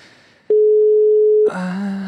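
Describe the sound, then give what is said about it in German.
A telephone ringing tone on a call: one loud, steady mid-pitched beep lasting about a second, followed by a richer buzzing tonal sound as the line continues. “Es müsste klingeln.”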